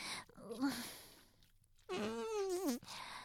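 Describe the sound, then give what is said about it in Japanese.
After a few soft words from a woman, a loud, drawn-out fart lasts about a second, a wavering buzzy tone that rises and falls before cutting off abruptly. “またおならかけちゃうよ”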